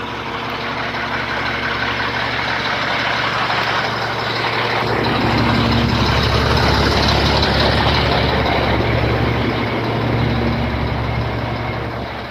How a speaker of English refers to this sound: Okay, I'm gonna walk past this garbage truck.